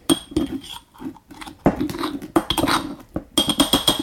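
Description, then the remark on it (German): A glass jar of coconut oil, solid at room temperature, being opened and dug into, with a series of irregular clinks and scraping, gritty rubbing sounds over about four seconds, moderately loud, with no talking. “Ich öffne hier das Glas. Da muss man ein bisschen bohren.”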